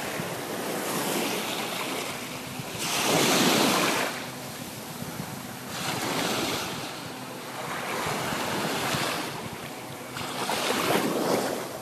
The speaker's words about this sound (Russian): Слушаем лучше океан.